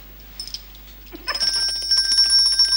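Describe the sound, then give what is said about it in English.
A bell rings out bright and sustained, its shimmering tone holding steady after a couple of faint tinkles, with no voices present. “We just stopped by to pick up my bell.”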